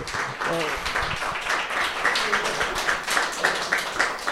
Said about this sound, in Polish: Oklaski dla niego.